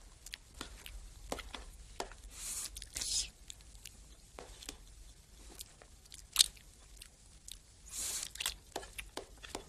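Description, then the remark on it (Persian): Someone eats lunch from a food pot while sitting beside a tree, with crisp bites and crunchy chewing repeating in an irregular rhythm, occasional brighter clicks and scrapes, and a low hum underneath. No one speaks. “کمی بعد دوباره کت و شلوارش را پوشیده کنار درختی نشسته و از قابلمه غذایش نهار می‌خورد.”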